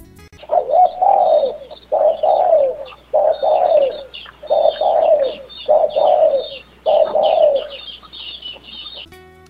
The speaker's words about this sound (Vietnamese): Con cu mồi gáy vang lên.